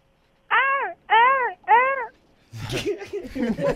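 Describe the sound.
A participant imitates a seagull with three loud, nasal, arching cries in quick succession, each about half a second long, followed by a voice talking.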